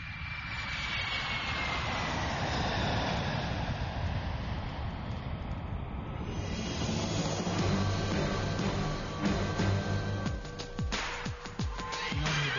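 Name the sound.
airplane taking off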